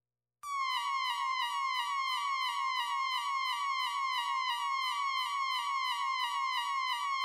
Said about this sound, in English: The following is is a test of the Gotham City Emergency Broadcast System. This is only a test.